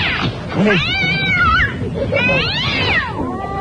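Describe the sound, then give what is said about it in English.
A house cat meows loudly and repeatedly in long, drawn-out rising and falling cries, with a low murmur of background noise underneath. “That's the elusive northern house cat.”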